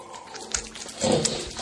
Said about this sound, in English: At the very end, though, it gets pretty furious. furious oinking and jerking off.